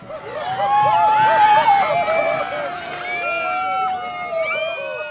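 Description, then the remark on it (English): A large crowd of Halloween parade spectators cheers loudly and steadily for five seconds as giant puppets, floats, stilt walkers, jugglers and marching bands pass, with many high-pitched whoops and shrill, rising-and-falling shouts overlapping in a continuous roar. “Hundreds of thousands of spectators cheer giant puppets, floats, stilt walkers, jugglers, and marching bands.”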